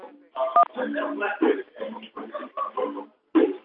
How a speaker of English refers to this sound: Is that your phone in the background